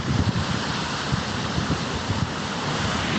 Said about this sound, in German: Und ich glaube, du hörst das Meeresrauschen. Warte mal, ich halte mal das Handy jetzt ins Meer, also ins Rauschen.